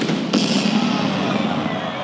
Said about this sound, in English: And then the cannon goes off.